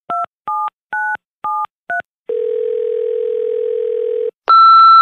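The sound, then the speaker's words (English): Five quick touch-tone beeps dialed in a rhythm, followed by a steady, droning telephone tone for about two seconds, then a louder, brighter tone cutting in at the end. No voices. “All right, let's try to get him on the phone.”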